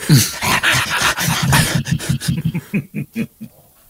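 dog

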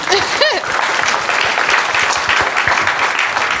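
audience applause

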